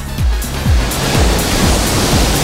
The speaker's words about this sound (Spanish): El ruido de las olas sigue siendo protagonista en este mediodía de la radio, en Radio Salobreña y en las emisoras municipales de la provincia de Granada.